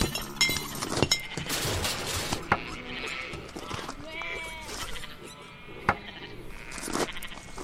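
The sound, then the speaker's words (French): On a farm, a sheep bleats and a pig squeals and grunts back in a noisy squabble, with sharp clattering knocks and thumps scattered throughout. “Dans une ferme qui paraît pourtant si paisible, il ne se passe pas une journée sans que le cochon et le mouton ne se chamaillent.”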